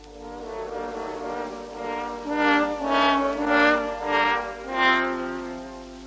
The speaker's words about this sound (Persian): سه تا هورن با هم صدای گرگه رو در آوردن